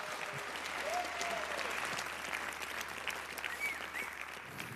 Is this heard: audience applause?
yes